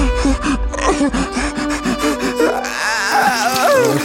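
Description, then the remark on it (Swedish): A voice fakes crying in pain, with gasping sobs, groans and a rising wail, loud for about four seconds with no words. “Det där är liksom, du gråter som att du har gjort illa dig där.”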